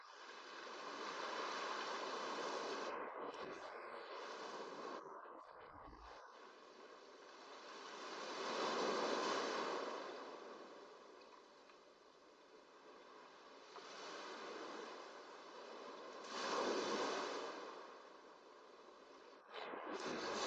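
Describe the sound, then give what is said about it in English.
Steady ocean surf washes in broad hissing swells, rising and falling in slow cycles every several seconds, with no voices present. “It synchronizes with the ebb and flow of the surf.”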